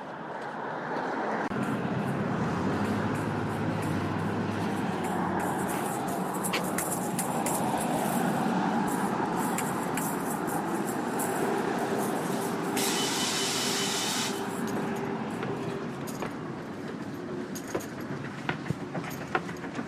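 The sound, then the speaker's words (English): A city bus rumbles past a bus stop without stopping, its heavy engine and road noise steady and loud throughout, with a brief airy hiss partway through amid general street traffic. “The three buses passed this one.”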